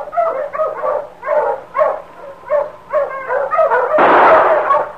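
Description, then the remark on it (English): A team of sled dogs pulling a sled barks and yelps in rapid, overlapping bursts, loud, ending in a short rush of noisy commotion. “Get those dogs, Chico.”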